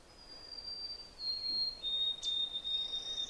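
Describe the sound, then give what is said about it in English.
A white-throated sparrow sings off a trail, its clear, high whistled song of long, pure, steady notes stepping slightly lower partway through, fairly faint over a soft background hiss, with no talking. “Of course, that lovely whistle, that's a white-throated sparrow.”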